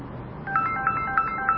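A phone's electronic ringtone chirps in four quick, evenly spaced bursts, moderately loud, over a faint background hum with no one speaking.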